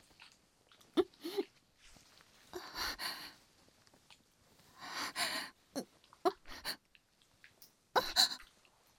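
licking an ear

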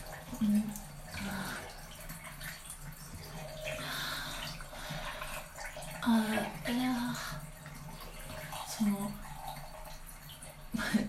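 shower water running

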